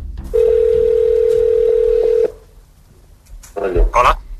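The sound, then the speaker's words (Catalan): A steady, unbroken telephone dial tone hums at one mid-low pitch for about two seconds as Navalny places a call to another number, then cuts off; after a short quiet pause, a voice briefly starts speaking. “Per tant, ara truquen a un altre nom, però aquesta vegada Navalny no diu qui és, sinó que es fa passar per una altra persona.”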